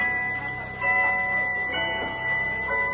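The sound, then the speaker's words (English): A pocket watch chimes with a delicate, high-pitched tinkling melody of sustained, ringing bell-like tones, played steadily and softly with no voices over it. “Listen to it chime.”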